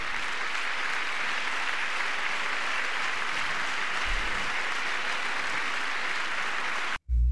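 A large audience in Congress claps steadily for about seven seconds during an address to Congress, after a call to fund a Golden Dome missile defense shield; a dense, loud wash of applause, broken off by a sudden cut just before the end.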